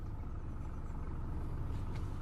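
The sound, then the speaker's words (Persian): A car engine idles steadily with a low, constant rumble that fills the whole stretch, at moderate level with no voices over it. “ماشین کوفتیو نگهدار. موتور خاموش کن.”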